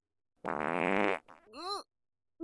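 fart

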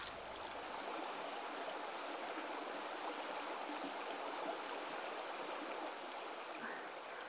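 flowing river water

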